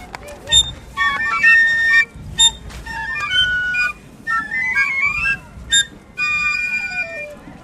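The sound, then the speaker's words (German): Five piccolo fifers play a brisk march tune together, shrill high notes stepping up and down in quick phrases, with occasional low thumps underneath. “hört man teilweise auch unbekanntere oder raffiniert arrangierte Märsche wie «Alte Kameraden», «Fritzli» oder «Der Schatz am Zürichsee»”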